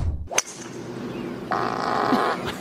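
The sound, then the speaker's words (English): A single loud, buzzy fart lasting nearly a second, picked up on another man's microphone while on camera, over steady background noise, with a brief thump shortly before it. “The other guy, Chalmers, caught his fart.”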